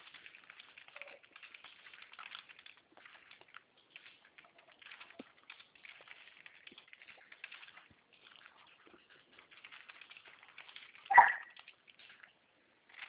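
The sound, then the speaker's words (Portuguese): A single sharp dog bark rings out near the end, standing out above a steady, faint crackling patter like water or rain that runs throughout. No one speaks. “É chato, hein, cachorro? Que foi? Ele fica latindo.”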